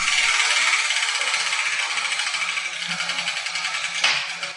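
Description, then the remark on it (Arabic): A wheel of Arabic letters spins with a steady stream of rapid mechanical clicks and rattling, slowing slightly toward the end before a sharper click near the finish. “هيا ابدأي بتحريك الدولاب.”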